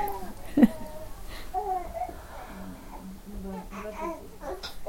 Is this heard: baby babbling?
yes